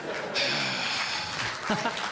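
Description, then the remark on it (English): A small group of about six people at a table claps briefly, a thin patter of applause lasting a couple of seconds, with murmuring voices and a bit of laughter mixed in underneath. “Each table I walk away from, there's a six-person applause.”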